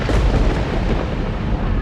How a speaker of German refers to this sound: als ein Blitz den Abendhimmel krachend zerreißt.